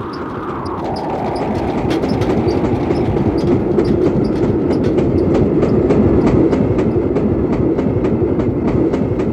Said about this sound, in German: Der Zug raste dahin, näherte sich der Stelle, wo die zweite Gruppe der Trams ihn erwartete.